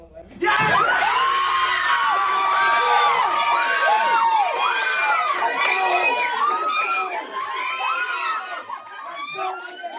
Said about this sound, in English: He gave a big guttural scream. Yes. We cheered, and everybody just went crazy. Yeah, it was really big.